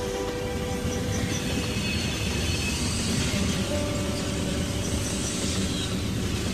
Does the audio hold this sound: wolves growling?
no